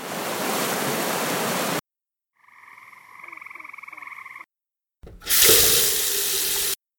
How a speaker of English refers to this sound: This week, those abrupt stops to the sounds of the Roanoke River, gray tree frogs, and a household water faucet set the stage for an episode marking the observance of Imagine a Day Without Water, to be held this year on October 21st.